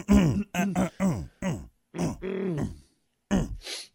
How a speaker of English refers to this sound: A bunch of cavemen over there just grunting away. I love it.